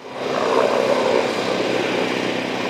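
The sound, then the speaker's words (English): Helicopters drone steadily overhead, engine and rotor noise loud and continuous, rising quickly at the start and holding for a few seconds without any talking, as they drop water on a wall of flames on a hillside during a wildfire. “On the third day of the fire, with his work done, Ken Woods waited and watched as helicopters dropped water on a wall of flames that worked their way down a hillside opposite his home.”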